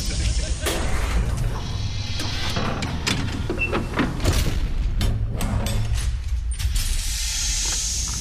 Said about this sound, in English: Now, excuse me while I close the giant lead-lined safety door.